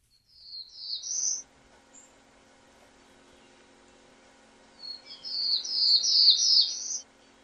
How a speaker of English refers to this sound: Again, that's the black-throated blue warbler.